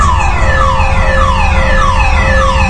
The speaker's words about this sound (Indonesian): Dan tak berapa lama aku tertidur, tiba-tiba aku terbangun karena mendengar suara alarm mobil yang berbunyi di basement.